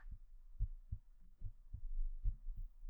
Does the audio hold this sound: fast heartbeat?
yes